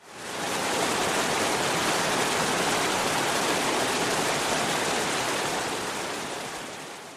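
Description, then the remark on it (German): A mountain waterfall rushes steadily and loudly as water flows down over rocks and stones, a dense, continuous roar of falling water that swells in at the start and holds throughout, with no voices present. “Manchmal gibt es auch einen Wasserfall. Da fließt das Wasser wie auf einer Rutschbahn nach unten. Dann rauscht es besonders laut.”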